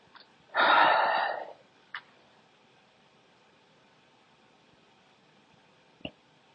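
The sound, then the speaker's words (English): A small, muffled burp comes out as a short breathy puff of air, followed by two faint clicks, with no talking. “Sorry, I just kind of like burped a little bit.”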